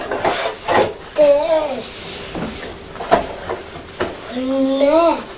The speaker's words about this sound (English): There we are, that's the train set.